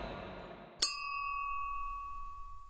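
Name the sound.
glasses clinking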